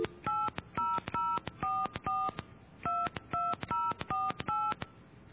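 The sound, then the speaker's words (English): A quick run of telephone keypad tones, around a dozen short two-pitched beeps pressed in steady succession with brief gaps, loud with no voices, as a phone number is dialed again. “I'm going to try this one more time.”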